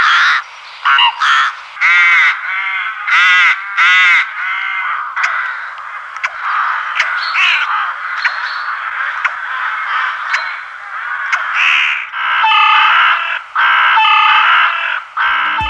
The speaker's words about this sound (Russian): Грачи прилетели. Все мы знаем эту птицу.